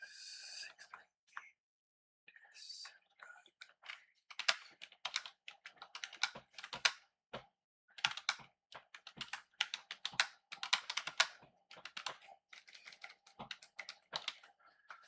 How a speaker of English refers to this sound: I'm just typing this too.